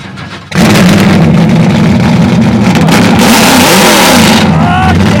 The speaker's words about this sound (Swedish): Och nu ska du starta din bil.